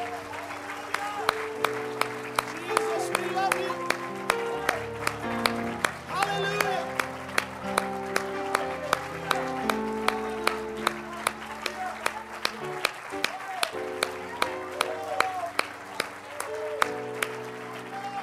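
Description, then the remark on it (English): A church audience claps hands in a steady, rhythmic beat throughout, loud, over sustained keyboard chords, with voices mixed in beneath the clapping, giving the Lord Jesus a hand clap. “Let's give the Lord Jesus a great big hand clap.”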